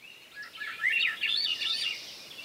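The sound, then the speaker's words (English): A Swainson's thrush sings a fluting, upward-spiraling phrase of rising whistled notes, clear, lasting about two seconds against a quiet background with no voices. “There's the flute-like song of a Swainson's thrush, a bird now wintering in Central and South America, maybe as far south as Bolivia.”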